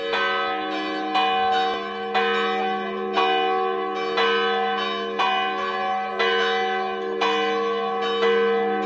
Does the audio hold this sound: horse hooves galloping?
no